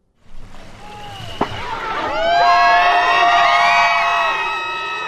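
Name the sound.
crowd cheering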